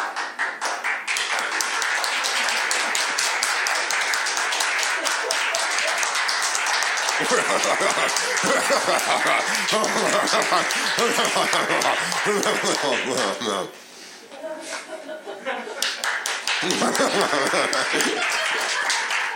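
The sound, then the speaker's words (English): A crowd at the Friendly Town benefit show claps steadily and densely for a long stretch, a loud wash of many hands with a few cheers and laughs mixed in, dipping briefly before surging again. “We don't need to do Friendly Town claps for a fucking hour.”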